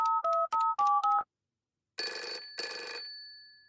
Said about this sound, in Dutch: Dan gaat de mobiele telefoon van dokter Hamster over.